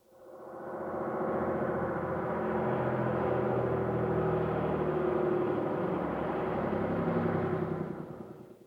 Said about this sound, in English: Bus.